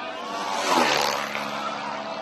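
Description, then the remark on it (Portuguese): A vintage propeller aircraft engine drones steadily and loudly during a rally of vintage planes in Africa, swelling briefly as it passes by, with a broad roaring buzz and no voices. “O rally dos aviões antigos em África teve início há 2 semanas na ilha grega de Creta.”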